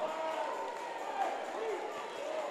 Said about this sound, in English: Slap your neighbor a high five and say, I serve a bad God.